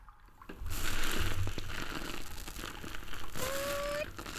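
A sponge is carefully squeezed and worked into foam for washing someone's back, making a continuous wet, crinkly squishing that starts after a brief pause and keeps going steadily, with a short squeaky whine near the end.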